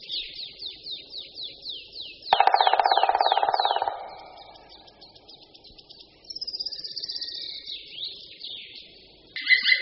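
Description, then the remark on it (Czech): A male black woodpecker gives its loud kli-kli call, which it makes during the courtship season: a rapid series of sharp, ringing notes repeated in bursts, with a dense buzzing burst partway through and no talking. “Ke konci naší nahrávky se samec ozve ještě hlasitým voláním kli kli kli kli, které vydává v době toku.”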